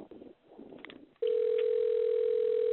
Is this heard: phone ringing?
yes